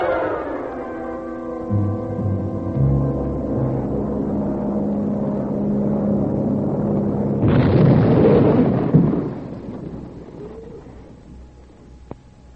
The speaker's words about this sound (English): plane explodes in midair. A son is arrested and charged with the murder of his mother and 43 other passengers.